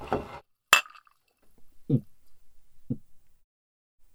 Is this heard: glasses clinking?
yes